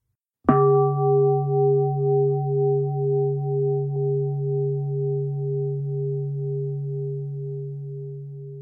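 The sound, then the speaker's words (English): A single meditation bell, the ending bell of a meditation session, is struck once and rings on, its rich, steady tones humming and gently wavering in volume as they slowly fade over several seconds, with no voices. “The ending bell is about to ring. Simply enjoy the sound of the bell.”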